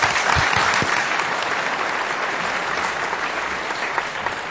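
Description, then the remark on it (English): An audience applauds steadily to thank the speakers, a dense wash of many hands clapping at a sustained, fairly loud level for several seconds with no voices breaking through. “Let's thank them once again with the warmest applause.”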